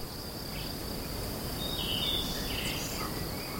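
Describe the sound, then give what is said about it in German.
A steady, continuous trill of crickets chirping in the countryside up in the mountains, with a few faint, brief bird twitters mixed in midway, all over a soft outdoor hiss and no voices. “Er schnürt die Wanderschuhe und steigt auf in die Berge, dort her, wo die Grillen zirpen und die Vögel zwitschern, wo die Luft sauber ist und es schmeckt nach einem frisch geschnittenen Gras.”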